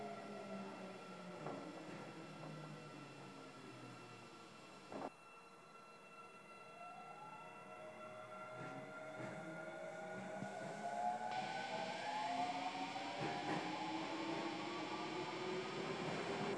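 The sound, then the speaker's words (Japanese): A subway train bound for Imazato, running from Nippombashi station toward Tanimachi 9-chome, rumbles steadily through a tunnel, its motor whine rising and falling in pitch over a constant low roar, with occasional clanks and rattles from the wheels and car. “ご乗車ありがとうございます。この電車は今里行きです。”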